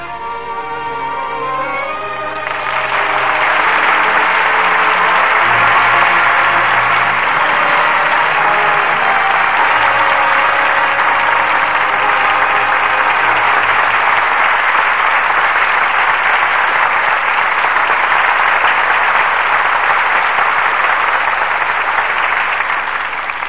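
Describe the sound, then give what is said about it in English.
A brief musical phrase gives way to loud, sustained applause from a large audience for performances by Joseph Cotten and Ida Lupino, a dense wash of clapping that holds steady for about twenty seconds with no one speaking. “well-deserved applause for two superb performances from Joseph Cotten and Ida Lupino.”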